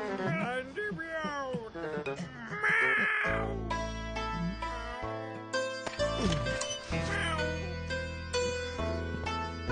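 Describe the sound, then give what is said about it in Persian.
Harsh crow caws repeat loudly for a few seconds, then give way to sustained, droning tones that carry on beneath the remaining calls. “حالا برو دوباره تورتو پهن کن که پرنده ها الان میان.”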